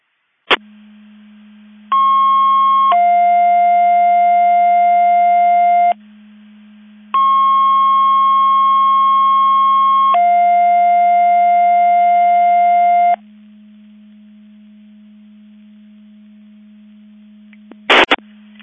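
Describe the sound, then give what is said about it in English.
Loud electronic alert tones over a steady low hum, a McHenry County Division 5 Mutual Aid Box Alarm test of alerting receivers at 10:03: two long two-part tone sequences, each a brief higher tone stepping into a longer lower one, followed by a short burst of radio static at the end. “Testing Mavis Division 5 Mutual Aid Box Alarm Alerting Receivers.”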